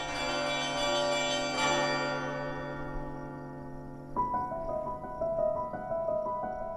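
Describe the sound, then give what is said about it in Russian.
Church bells ring out with long, sustained overlapping tones, struck again around the middle as a new set of brighter bells joins in, the peals resonant with no talking. “Поймать звон. Теперь-то что его ловить, когда везде звонят?”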